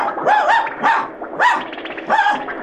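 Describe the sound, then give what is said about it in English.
A dog named Charlie barks repeatedly at the moon while flying in a Model T, four sharp barks in a steady rhythm with short gaps between them and no talking. “The wind was blowing through Charlie's whiskers, and as they drew nearer, he barked and barked at the man in the moon.”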